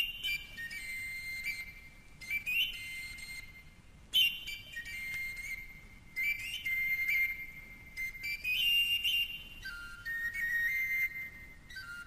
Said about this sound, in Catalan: Va passar la porta, va sortir al carrer, va aturar-se una estona, va posar-se la flauta als llavis i va començar una tonada misteriosa.